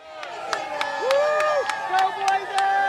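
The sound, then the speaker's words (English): A lively crowd of UAB football fans lining a sidewalk on a Monday morning cheers outdoors as players leave to board buses, clapping in a steady, quick rhythm while sustained brassy tones and voices blend together, loud throughout. “UAB football fans lined the sidewalk Monday morning as players left the Football Operations Center to board buses to start their trip. The crowd is pumped.”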